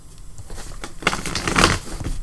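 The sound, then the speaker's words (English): A deck of cards being shuffled during a tabletop card game, with discarded cards going back in: a quiet rustle first, then a louder, papery flutter of rapid crackling riffles lasting over a second, with no one talking. “All right, shuffle.”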